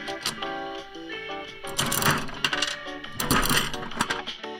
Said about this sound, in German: Okay, zuerst die eine Münze reinwerfen, bitte. Auch Kaugummiautomaten können zwei Seiten haben.